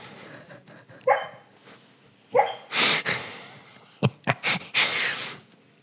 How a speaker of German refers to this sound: jetzt träumt der Hund hier unten. Ich darf die jetzt leider nicht wecken.